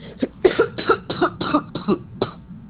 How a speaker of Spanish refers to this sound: Perdón, que voy a toser.